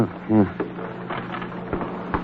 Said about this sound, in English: Get the elevator door.